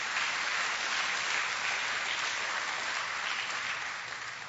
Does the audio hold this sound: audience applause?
yes